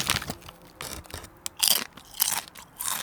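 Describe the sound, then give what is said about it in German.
Someone chews Schoko-Crossis chocolate cereal clusters from a freshly opened bag, producing a run of crisp, bright crunches in irregular bursts, fairly loud and with no talking over them. “Das sind die Crossis.”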